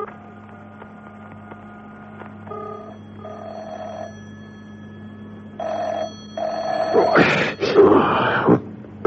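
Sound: car telephone ringing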